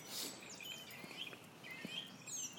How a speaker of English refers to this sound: Hello, Mr. Blackbird.